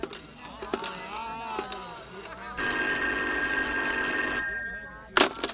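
After a few seconds of talking, a telephone bell rings loudly in one continuous burst of about two seconds, then stops, followed by a short clatter.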